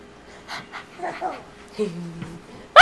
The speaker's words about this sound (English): You want to hear the dog? Like, the dog? The dog?